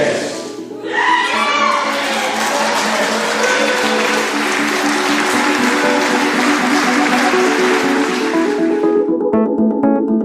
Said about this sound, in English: What a fantastic day for the Scottish deaf community. Watching the video, hearing all the applause and cheering, seeing the enthusiasm on people's faces, the rotating hands indicating applause, it still moves me to this day.